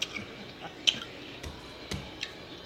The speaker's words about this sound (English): She doing a food review. I can't even talk. She's so into the food. A food review is you talking, not you chewing and smacking.